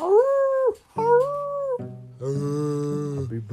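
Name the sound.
wolves howling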